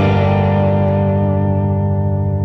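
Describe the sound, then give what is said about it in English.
A loud, sustained electric guitar note rings out on its own, rich in overtones with a slightly gritty, effected tone, its brighter edge gradually fading as it holds; a recorded guitar part whose reverse echo has been undone with digital technology to reveal what was actually played. “I can do the same with … guitar. Here's what he actually played.”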